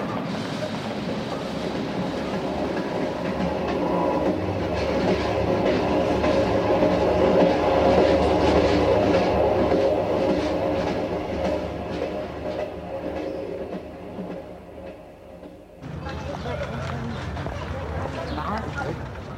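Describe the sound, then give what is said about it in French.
A train rumbles steadily along the tracks with a continuous, loud rattling clatter, shifting in tone near the end as it rolls on; faint voices seem to murmur underneath. “Prends le train.”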